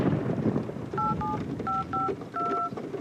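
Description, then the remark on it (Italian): Phone keypad tones beep out a mobile phone number, six short dual-tone presses in quick uneven bursts, heard against a steady rumbling, windy background with no talking. “Va bene, lo chiamerò sul cellulare.”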